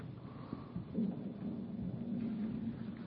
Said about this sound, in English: Oh, my stomach just growled huge. If that microphone was lower, you would have heard a brrrr.